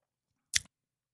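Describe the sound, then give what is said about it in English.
A single quick sip of a white wine blend from Augusta Vin, a short airy slurp lasting a fraction of a second in otherwise quiet surroundings, with no talking. “Let's have a sip first, and then I'll tell you what it is.”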